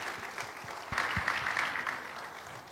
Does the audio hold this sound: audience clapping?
yes